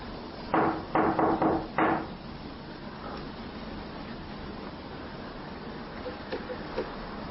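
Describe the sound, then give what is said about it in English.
A quick series of knocks on a door, about five sharp taps in a short irregular burst, clear, followed by a quiet background hum. “I'll tap on the door and you can finish.”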